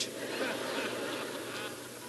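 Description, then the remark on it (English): A raspy, nasal hen turkey call, made by a caller on a turkey hunt to lure a tom turkey, sounds steadily for about two seconds, fairly loud, with no voices alongside it. “A good caller is the secret to turkey hunting success, because it is his job to capitalize on that Tom Turkey's remarkable sense of acute hearing and to lure him with the siren song of a plump little hen that is ready to be basted.”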